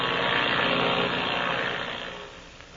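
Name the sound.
twin-engine airplane flying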